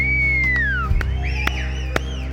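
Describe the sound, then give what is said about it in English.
Several people whistle at once: one long descending whistle, then overlapping wavering whistles from a crowd, with a steady low hum and a few sharp clicks underneath. “How about you whistle even if it's a good thing?”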